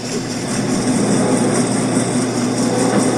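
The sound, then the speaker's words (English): A loud, steady mechanical rumble, a mix made in the Rain Rain app, blends a washing machine's churning drone with the low, continuous roar of a passing train, holding evenly throughout with a faint low hum and no voices. “Like, let's say I want a washing machine mixed with a train.”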